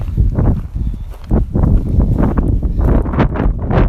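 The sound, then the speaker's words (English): Strong wind blows hard across the microphone in a loud, continuous rumble, with gusty bursts rising and falling throughout and no one speaking, on the Pacific Crest Trail in Southern California. “Windy.”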